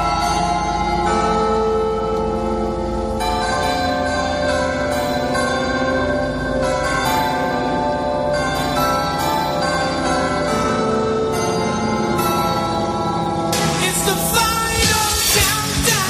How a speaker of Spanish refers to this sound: Mira, quiero que escuches atentamente este sonido. Son las campanas del Ayuntamiento de Zamora. ¿Te suena? ¿Has reconocido la música que tocan estas campanas?